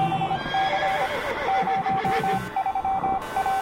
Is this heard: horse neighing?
yes